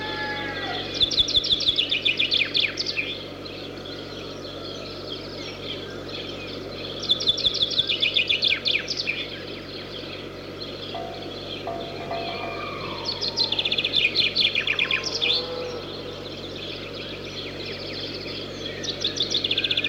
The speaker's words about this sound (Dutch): De vink.